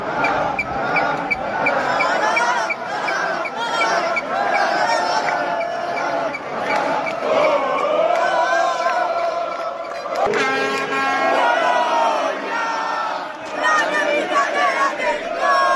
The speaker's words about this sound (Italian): tutti i tifosi del Bologna sono scesi in piazza, in particolare a Piazza Maggiore. Ascoltiamo un brevissimo audio di quello che sta accadendo in questo momento in Piazza Maggiore.